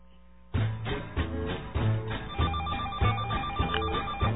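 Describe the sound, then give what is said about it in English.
A short, catchy made-up jingle for opening the phone lines on the show What the Hell starts after a brief pause, with a bouncy repeating beat and a bright ringtone-like melody, sounding slightly tinny and narrow, played loud with no one talking. “Play the little ditty. Some dumb thing we made up.”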